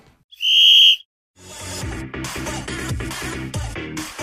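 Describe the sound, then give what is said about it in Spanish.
A referee's whistle gives one loud, shrill blast lasting over half a second, sounded as the starting whistle to open a sports programme, followed by a brief silence before rhythmic music starts up. “Y sin más preámbulos, llega el momento de hacer sonar el silbato de inicio en el encuentro, que dé comienzo el programa 3x09 dentro sumario.”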